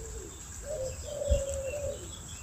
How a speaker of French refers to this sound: Quand on parle du loup, et on a des pigeons ramiers en arrière-plan.